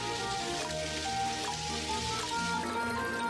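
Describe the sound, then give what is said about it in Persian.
Water streams steadily from a hose laid on the edge of a dug hole, filling it as a swimming pool, a continuous hiss and spatter at even loudness throughout, with sustained musical tones running underneath. “استخر داره پر میشه.”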